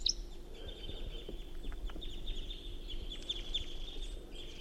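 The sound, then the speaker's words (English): A wild bird gives very rapid, high-pitched flight calls in a quick run of short notes as it flies off with another bird, over a steady low rumble of outdoor background noise. “So recording, this is bird 354 during very rapid flight calls.”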